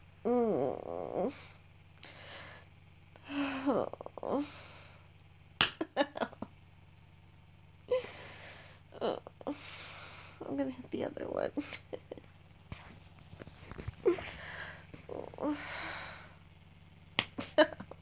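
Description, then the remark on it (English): A few sharp, hard slaps on bare skin, a person slapping their own nipples, crack out loudly at irregular moments between stretches of heavy breathing and soft vocal sounds. “Slapping my nipples super hard.”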